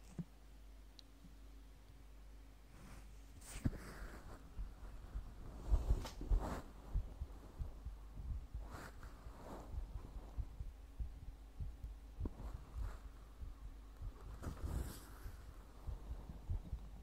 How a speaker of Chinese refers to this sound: 先生，只是让你听心跳，脸不可以来回蹭哦。